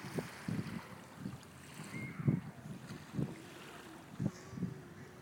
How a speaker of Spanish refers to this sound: Esto es las olas en la playa de aquí de Marsa's Lot